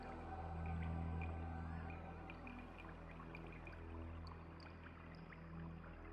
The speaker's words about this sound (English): This creates notes that sweep up and down in pitch, continuously. The background stars in the optical image have been converted to water drop sounds in the sonification.